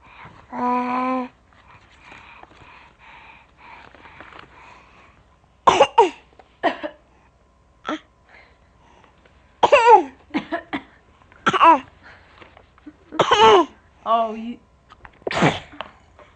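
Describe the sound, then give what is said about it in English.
A run of sharp sneezes, about six of them spaced a second or two apart, with a brief voiced sound at the start and some soft murmuring between bursts. “all these sneezes.”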